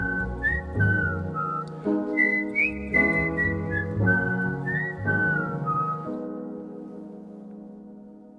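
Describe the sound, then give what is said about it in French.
A person whistles a smooth, gliding melody in a live performance, accompanied on piano, the backing shifting chords every second or so, the whistle clear and upfront before the music fades out. “Je n'oserais pas siffler comme lui.”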